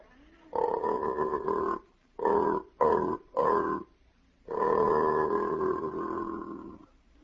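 A deep, drawn-out aardvark mating call from a record, played backwards and slowed down: a long groaning swell, three short bursts, then another sustained rumbling moan, fairly loud with no speech.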